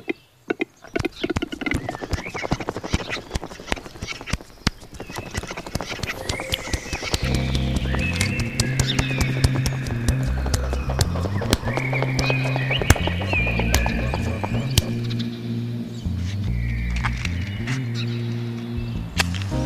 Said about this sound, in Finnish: Ja tässä lopuksi vielä rakastelevien metsojen ääniä ja sen jälkeen takaisin studioon.